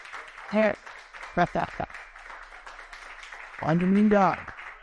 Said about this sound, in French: Donc, je vais vous demander d'applaudir pour Jésus parce que c'est très important. On peut applaudir pour Jésus.